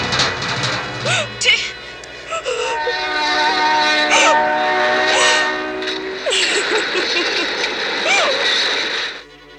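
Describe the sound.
A train rumbles past, its whistle sounding in a long, sustained blast that fills the whole stretch, with rising and falling tones and faint voices mixed into the noise.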